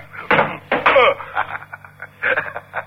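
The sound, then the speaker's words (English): A gun thrown against a door, landing with a couple of loud, sharp thuds near the start, followed by quieter scraping and clattering sounds. “Your gun hit the door”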